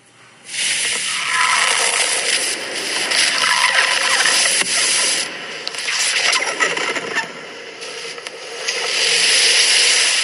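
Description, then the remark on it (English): A loud, continuous hissing sizzle of red-hot steel ball bearings put into a block of ice, layered with sharp crackles and pops, surging and easing over about ten seconds with no talking. “a steel ball bearing and you heat it up till it's red hot”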